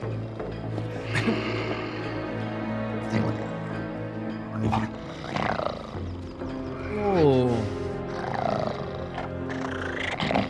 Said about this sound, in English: Tiger.